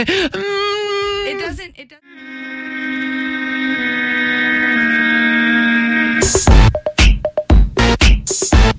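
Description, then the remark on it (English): Loud rock-style music with heavy effects: a wavering, voice-like opening, then a long sustained distorted tone that breaks into punchy, choppy bursts of full-band sound near the end. “Yeah, I feel like I got to do that like the whole time while this song is on.”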